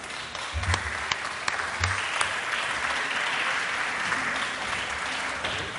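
Steady applause from a crowd at the UMH Alumni Day diploma ceremony, for the vice-rector handing out diplomas, a dense wash of clapping that holds at an even, fairly loud level for several seconds, with a few sharper individual claps standing out early on.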